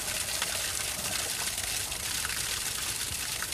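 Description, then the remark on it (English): Steady rushing water pours continuously from an outfall directly into an estuary beside a harbour, a broad gushing flow of relatively clear water with no pauses and no voices. “But there was worse, flowing directly into the estuary beside the harbour.”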